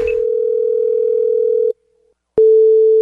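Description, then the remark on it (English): A telephone ringback tone on an outgoing prank call to a woman at her workplace: a steady electronic hum holds for nearly two seconds, breaks off briefly, then resumes, clear, with no voices. “So it's Halloween season, and I thought this is a perfect opportunity for a really creepy phone call where I call her because I need blood.”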